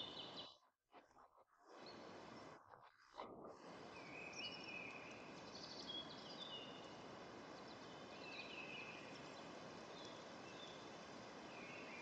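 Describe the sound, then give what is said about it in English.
Scattered birds chirp and twitter in a forest over a steady, rushing outdoor background, with brief gaps early on before the calls continue intermittently. “You perceive the field of birds, the creaking of trunks and branches.”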